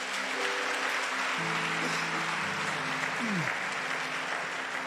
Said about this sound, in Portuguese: Aplauda o nome de Jesus.